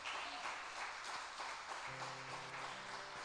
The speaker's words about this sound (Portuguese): Se você querer, dê um forte aplauso ao Senhor.